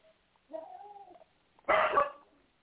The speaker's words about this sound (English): Excuse me, you guys, that's my pup in the background.